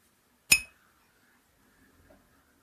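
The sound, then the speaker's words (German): A single bright clink of glasses knocking together in a toast over beer, sharp, ringing briefly before fading into near silence with faint soft noises afterward. “Prost. Prost.”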